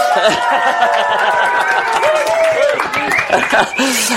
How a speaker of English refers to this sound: Yay! Listen to that crowd. And the crowd goes wild.